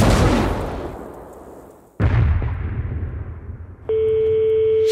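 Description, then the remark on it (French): Two loud cannon blasts fired from a ship, about two seconds apart, each booming and then rolling away into a long rumble. A steady, sustained tone comes in near the end. “nous allons remercier les Espagnols. Tenez-vous prêts, les enfants, le moment est venu de leur adresser notre message d'adieu. Hector, à tes canons.”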